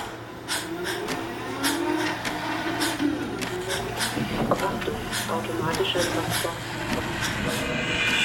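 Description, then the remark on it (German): A driverless transport vehicle of an automated goods transport system, which moves large carts for sterile goods, starts moving: a steady electric motor hum with mechanical whirring and a series of sharp, regular clicks and rattles, while a muffled voice is faintly audible. “Achtung, Fahrzeug fährt an.”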